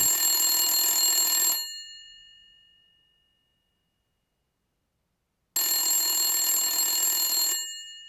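A telephone rings in two long bursts of bright, metallic bell tone, each lasting about a second and a half, separated by a pause of several seconds. The first ring trails off before the second begins.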